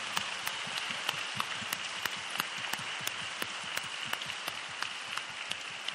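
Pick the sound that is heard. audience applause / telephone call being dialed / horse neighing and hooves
audience applause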